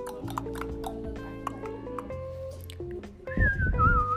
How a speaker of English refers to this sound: I can't either. I can only do it because of band and I'm really bad at it. Can you whistle in?